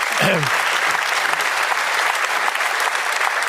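A brief voice at the start gives way to steady, dense applause from many people, loud, continuing without pause to the end.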